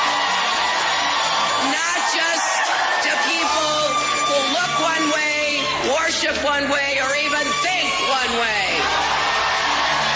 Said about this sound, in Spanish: la gente gritaba Madame President, Madame President.